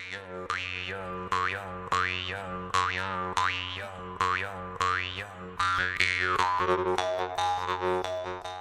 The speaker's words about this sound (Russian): Это специальный музыкальный инструмент, очень маленький, который слышно далеко. И человек, который играет на хамусе, он дает сигнал другим людям, и они могут его найти. Послушайте, пожалуйста, как звучит хамус.